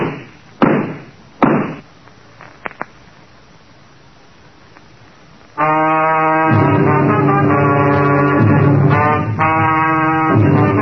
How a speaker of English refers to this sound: Then I realized that she wasn't shooting at me. She was shooting through the door.